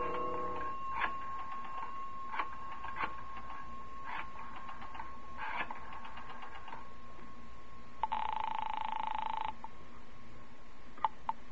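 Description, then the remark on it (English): A telephone is dialed in one of a row of phone booths at the rear of a residential hotel lobby: several bursts of rapid rotary-dial clicks over a faint steady hum, followed by a brief buzzing ring tone. No one speaks. “I decided I'd try calling her again. Walked past the cigar stand in the lobby to a row of phone booths at the rear.”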